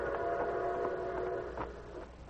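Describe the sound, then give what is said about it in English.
A distant whistle of an approaching train holds a steady, droning tone for a couple of seconds, sounding somewhat faint and far off with a slight fade toward the end, heard from a wooded grove near the railroad tracks. “In a wooded grove near the railroad tracks, 4 men with their faces masked by bandanas waited tensely as they heard the distant whistle of an approaching train.”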